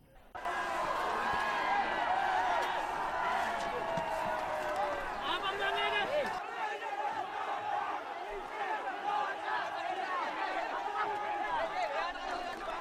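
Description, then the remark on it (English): Hundreds of protesters shout slogans against the president loudly and continuously, many voices overlapping in a dense, agitated roar that stays intense throughout, with scattered individual yells rising above the mass. “Hundreds shouted slogans against the president.”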